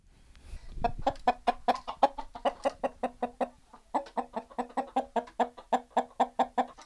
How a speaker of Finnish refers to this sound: No nyt me tultiin naisporukan kanssa käymään Kankantörmän kanalassa.